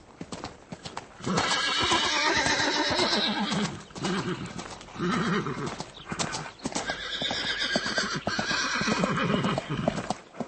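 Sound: przewalski's horse neighing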